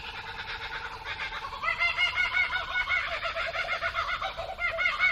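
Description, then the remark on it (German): Laughing kookaburras, Australian birds, call in a rapid, rolling cackle that swells louder after a quieter start and keeps going without pause, a second kookaburra joining in and an Australian magpie faintly heard; the repeated hooting notes are clear with no talking. “Das ist der Laughing Kookaburra.”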